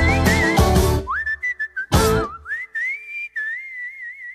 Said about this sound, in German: Den Klingelton könnt ihr abladen auf srf3.ch, damit das Pfeifen nie vergessen geht.